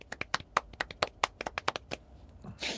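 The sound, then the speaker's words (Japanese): Sparse, light handclapping celebrating November 14 birthdays: about fifteen sharp claps in a loose, uneven rhythm over two seconds, then it stops and a soft rustling noise follows. “いや、なんかさ、拍手控えめだなと思って。”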